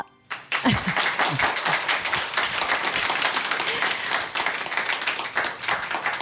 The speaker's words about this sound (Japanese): ありがとうございます。こんにちはと言ったら拍手を返してくれと言ってたわけじゃないんですよ、私。なのに皆さん早速反応してくださいまして、本当に素晴らしいリスナーの皆さんに囲まれているなということでございますが